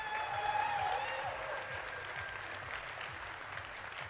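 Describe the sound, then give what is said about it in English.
Steady audience applause as an audience member from the back of the room is called to come forward, a dense wash of many hands clapping at an even loudness throughout, with faint murmuring voices and a few higher tones woven in. “Come forth if you can get a round of applause.”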